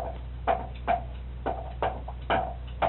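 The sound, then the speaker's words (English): A woodpecker pecks at a feeder, eating, with about six sharp, woody taps at an uneven, unhurried pace, over a low steady background hum. No one speaks. “That woodpecker can eat the most.”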